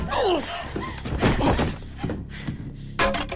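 A baseball bat strikes someone's head with a heavy, dull thwack, followed by a few more thudding knocks and a final sharp bang, with a brief strained vocal sound early on.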